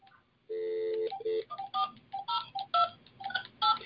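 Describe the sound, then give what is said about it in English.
A rapid series of electronic keypad dialing tones from a flip phone, clear, starting with a couple of longer beeps then quick, irregular presses, with no voices. “These flip phones don't have any service.”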